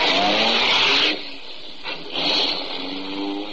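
car driving off

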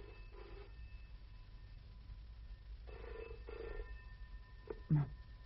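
telephone bell ringing

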